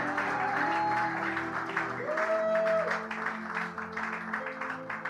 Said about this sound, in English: If you are clapping, clap very well. Yes, hallelujah.